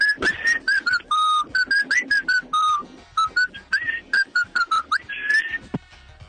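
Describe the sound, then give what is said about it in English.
A whistled melody of quick, bright notes and short phrases, some sliding up or down, whistled alone onto an answering machine, with a slightly thin, phone-like quality. “Whistling, the worst form of music, onto an answering machine, which no one has anymore.”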